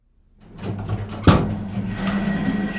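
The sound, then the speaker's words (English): Lift doors slide along with a rumbling whir, meet with a single solid thud, then a steady mechanical hum carries on. No voices. “Can you hold the doors a minute”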